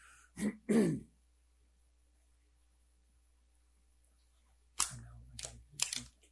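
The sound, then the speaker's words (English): A person clears their throat twice in quick succession, then after a long silence lets out a few sharp coughs. No talking. “I'm going to cough.”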